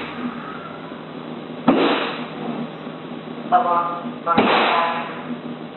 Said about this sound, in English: 4 minutes later, at 3:07, you hear those three gunshots.